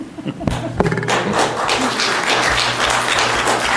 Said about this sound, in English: It's appropriate to clap at this point.